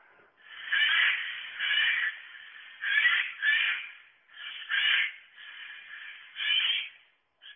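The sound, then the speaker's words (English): A jay's harsh, rasping shrieks repeat in a series of loud, ragged bursts with brief pauses between them, heard clearly on their own without any talking. “It's like it's a shriek, cross between somebody revving a motorbike, somebody ripping cloth.”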